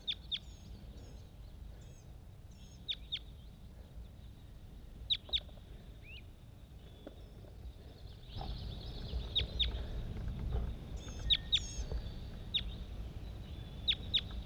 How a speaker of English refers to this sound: Bird 80. Responding to a whole bunch of other wild birds all over the place.